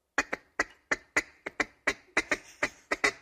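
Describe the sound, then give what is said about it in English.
A duck call sounds a rapid, uneven string of about a dozen short, raspy clucks, often in quick pairs, mimicking the chatter of feeding ducks. No one speaks. “So look, now see, that's your like your a hen duck is calling on another one. But if they're like they're eating, they'll go.”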